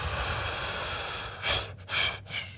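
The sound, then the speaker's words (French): A person forcefully blows out breath in two short, breathy gusts, the second slightly longer, demonstrating the final exhale let out in tantric breathing, against a faint low background hum with no talking. “T'sais, quand tu fais du tantrisme, c'est quelque chose que tu apprends beaucoup, la respiration. T'sais. Puis ta dernière, celle que tu laisses sortir, ben, tu fais...”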